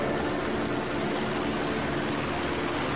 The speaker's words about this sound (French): Pour les protéger, un hélico rase la zone, prêt à tirer.